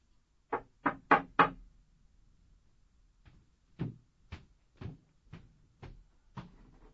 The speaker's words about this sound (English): A knock comes at the door.